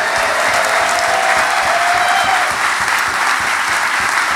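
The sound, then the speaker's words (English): At an evening event, a crowd applauds a special guest, a guest's father seated at the front, with dense clapping sustained at a fairly loud, even level throughout and a faint whistle or cheer rising briefly in the middle. “Can you give him a round of applause, please?”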